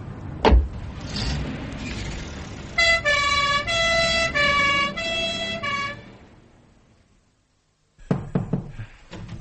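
ambulance siren approaching

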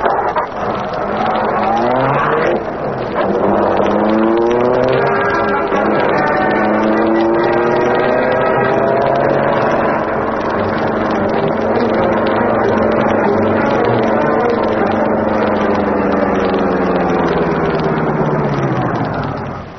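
car driving off

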